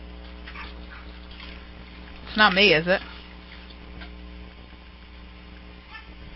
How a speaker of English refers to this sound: No, it's the washing machine. I'll let things soak for a while.